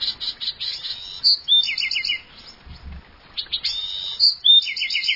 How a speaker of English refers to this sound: A Buick's wren buzzes, then breaks into exuberant song.